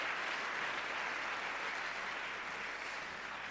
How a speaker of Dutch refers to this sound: Geef haar een applaus.